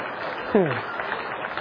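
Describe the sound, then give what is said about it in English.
Steady, dense clapping from an audience during a sermon fills the whole stretch, with one brief falling vocal whoop rising above it early on. “Clearly, a real applause line.”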